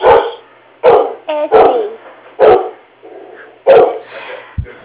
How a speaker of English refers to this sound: I'm sorry. My dog just saw someone come through the office. And she's not real happy about it.